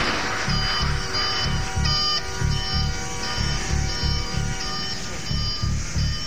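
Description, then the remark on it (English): Several electronic alarms blare at once after a hull breach causes a loss of pressure, a low buzzing pulse repeating in quick bursts beneath steady high beeping tones, loud and continuous throughout with no voices. “Kill those alarms.”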